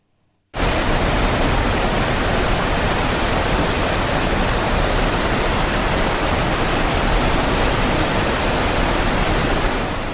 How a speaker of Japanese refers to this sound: 雨に降られた、派手に降られた、ゲリラ豪雨、全身ずぶ濡れ、ちょっとひどい、最悪の降られ方。